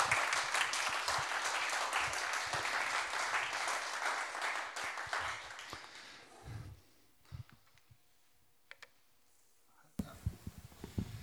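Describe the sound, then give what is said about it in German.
Dense audience applause welcoming a guest fills the first six seconds as a loud, crackling wash of many hands, then thins out into scattered claps and murmurs before a brief final burst. “darf ich die mit einem Applaus führen, bitte, meine Frau.”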